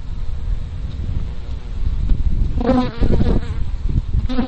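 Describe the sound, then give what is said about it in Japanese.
Honeybees buzz steadily inside a strawberry greenhouse where the strawberries are in full bloom, pollinating the flowers; a continuous droning hum with a few louder passes as individual bees fly by. No one speaks. “でこのハウスはなんか蜂がいるんですけど、ミツバチの音が聞こえるかしら。”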